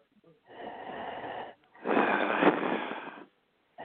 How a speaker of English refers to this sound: I wouldn't mind it so much if you weren't snoring into your microphone.